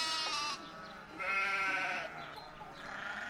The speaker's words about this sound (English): I hear the sheep going baa, baa, baa. Can you make that sound?